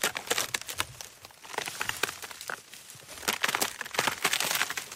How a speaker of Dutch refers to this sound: Ik was net van plan mijn gezel gerust te stellen met die verlaten streek, toen ik plots een gekraak van dorre takken hoorde.